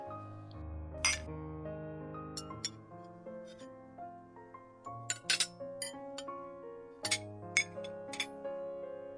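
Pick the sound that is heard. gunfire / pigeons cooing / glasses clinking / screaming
glasses clinking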